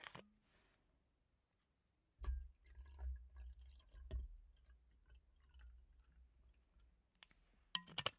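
Plum wine poured into a glass: a glassy clink, then several seconds of soft gurgling liquid with faint drips, and another sharp clink at the end. No talking.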